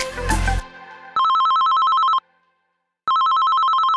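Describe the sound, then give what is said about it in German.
A telephone rings twice, each ring a loud, rapidly warbling electronic tone lasting about a second, separated by a short silence, after a brief burst of noisy sound at the start. “Ein Anruf von der Gynäkologin und plötzlich ist alles anders.”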